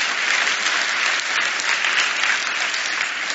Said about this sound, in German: Das finde ich auch einen Applaus wert, genau.